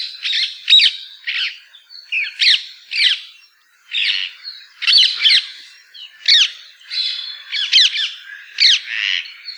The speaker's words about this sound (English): They can also be incredibly noisy when roosting. Perhaps you've heard the loud squawks of these birds when in flight or at their roost.